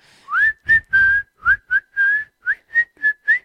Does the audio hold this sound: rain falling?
no